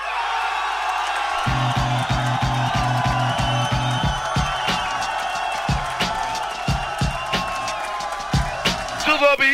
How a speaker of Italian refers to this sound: Un applauso per uno e un applauso per l'altro. Dai, cioè, quello più lungo ha vinto. Il primo applauso per Monti.